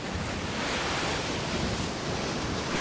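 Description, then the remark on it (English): A steady, full roar of ocean surf washing onto the shore, fairly loud, with no distinct breaks between waves and no voices. “Just the sea at the end of the world.”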